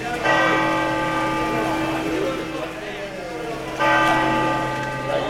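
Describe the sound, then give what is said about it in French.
Large bells of the cathedral of Santiago ring out loudly with rich, sustained overlapping tones, a fresh strike swelling the sound near the end, while faint outdoor murmur lingers underneath. “Et les cloches sonnent à la cathédrale de Santiago pour l'arrivée de Sophia.”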